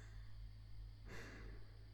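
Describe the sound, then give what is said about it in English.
A single soft, airy breath swells and fades partway through, gentle and unhurried over a steady low hum, with no talking. “Listen to my breathing.”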